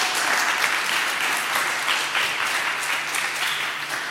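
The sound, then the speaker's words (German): Sustained audience applause at the closing session of an event, a dense wash of many hands clapping at a steady, fairly loud level throughout, with no one speaking over it. “Großen Applaus.”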